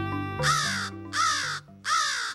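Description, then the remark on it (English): A crow gives three loud, harsh caws at an even, unhurried pace, each rasping call lasting about half a second, over a low, steady droning tone underneath. “Crows play many roles in human cultures, from ominous tricksters to sacred purveyors of wisdom.”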